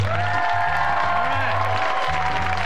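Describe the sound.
A large audience claps steadily and densely for a few seconds after being asked how many Democrats are present, with cheering and crowd voices mixed into the sustained wash of applause.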